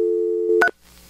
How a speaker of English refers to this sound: Dial tone. And touch tone.